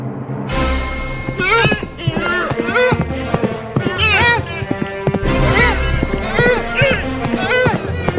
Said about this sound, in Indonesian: Tiba-tiba terdengar derap suara rusa-rusa berlari.